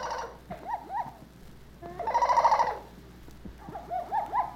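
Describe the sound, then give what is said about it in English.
A mynah bird gives its natural jungle call, played from a tape recording: short warbling phrases, then a loud, harsh, sustained burst in the middle and a few more chattering notes, clear with no voices. “The first sound you will hear is the natural jungle call of the minor bird.”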